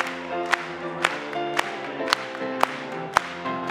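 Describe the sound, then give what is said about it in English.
An audience claps together in praise in a steady beat, about two claps a second, sharp and regular over sustained, harmonic music of a hymn. “Let's clap it to him.”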